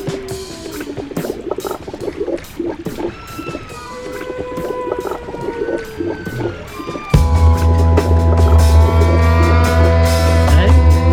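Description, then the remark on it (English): Whale vocalizations: rising and falling whistles mixed with rapid clicks, then a loud, steady low droning hum with layered tones joins in for the second half. “Whales, great creatures of the sea, please listen to me.”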